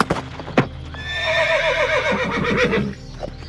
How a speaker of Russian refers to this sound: Конь, словно примериваясь к новой обуви, переминался с копыта на копыта и удовлетворенно фыркал.